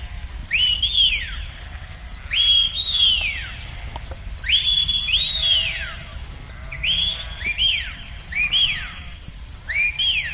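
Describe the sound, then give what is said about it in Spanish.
A shepherd's sharp, high whistled calls to communicate with his flocks of livestock, repeated in short bursts of rising and falling tones every second or two, ringing out over a steady low outdoor rumble. “Yo conocía el silbo gomero, conocía el trato entre personajes de islas pequeñas, pero los silbidos como forma de comunicación con la ganadería me deja perpleja.”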